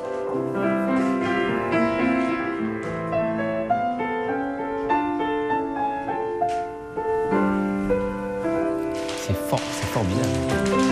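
Solo acoustic piano plays an acoustic version of a classic pop song: a flowing melody over sustained chords, moderately loud, with notes ringing and decaying steadily throughout.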